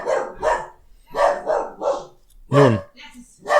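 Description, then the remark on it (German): A dog barks repeatedly, a run of sharp, loud barks in uneven bursts with short pauses between them. “Heute mit Hundeeinlage.”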